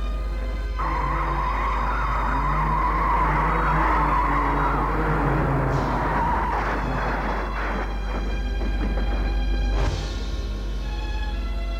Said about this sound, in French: À son travail furieuse, conduit sa voiture comme une folle.